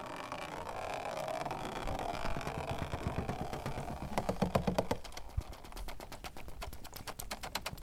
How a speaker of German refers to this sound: Jedes Fundstück hat also seinen eigenen Klang, wenn das Meerwasser aus den Flaschen darauf tropft und klopft.